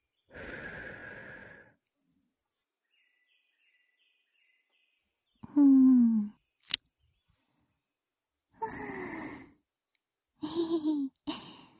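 A shrine maiden's soft, airy breath is blown into the ear at the start to soothe, followed by several shorter breathy, sigh-like exhalations and a small click, with a thin steady high tone running underneath throughout.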